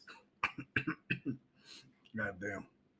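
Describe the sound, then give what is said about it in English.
A quick run of about five short, sharp coughs in a burst, followed by a longer strained, voiced sound like a groan or clearing of the throat. “If you have a dusty hoe that makes people cough, you chose the right podcast.”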